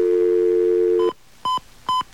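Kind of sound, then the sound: signal or alarm, telephone number being dialed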